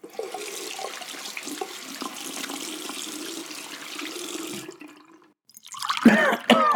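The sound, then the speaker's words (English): A long, steady rush of pouring water fades to a brief silence, then sharp splashes burst out as cold water is thrown onto someone's face to wake him. “The awakening came like a whoosh of cold water on the puss, which it was.”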